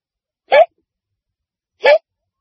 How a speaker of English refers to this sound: We were watching the talk show host rehearse. He was so smooth that he made it look easy. Then he got the hiccups.